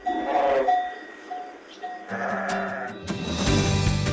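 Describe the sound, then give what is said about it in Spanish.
Several sheep bleat in overlapping, wavering calls, some louder, others fainter, with a low rumbling background building toward the end. “Nos parece precioso con las ovejas parando de fondo.”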